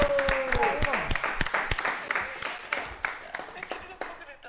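A burst of applause from a small group, dense overlapping claps at steady volume with sharp individual hand claps standing out, fading off at the end; a brief tonal sweep early on.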